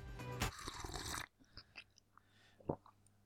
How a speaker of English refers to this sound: Yes. There we go. Oh, it's a double sip. Who knew? Oh. Wow. The double.